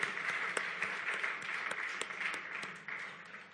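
A round of applause from a crowd, dense overlapping claps forming a steady, bright wash with sharp individual claps poking out, fading slightly toward the end.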